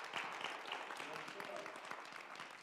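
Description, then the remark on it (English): An audience claps steadily throughout in praise of God, many hands striking in a dense, crackling wash of sharp claps that stays loud and even, with voices mixed faintly underneath. “Come on, clap those hands and give God praise.”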